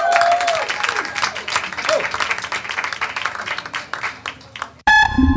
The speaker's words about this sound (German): meine Damen und Herren, ein Applaus. Applaus, Applaus, Applaus!